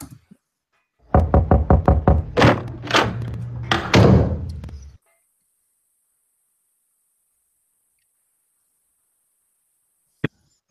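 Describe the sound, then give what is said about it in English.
A front door being opened: a few seconds of loud clunks, knocks and rattling from the latch, then near silence ending with one sharp click. “just get to my door here.”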